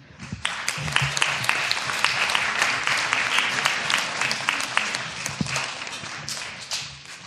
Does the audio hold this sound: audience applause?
yes